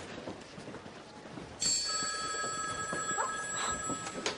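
A telephone bell starts ringing partway through, a bright, steady trilling tone that continues to the end, clear over faint background noise.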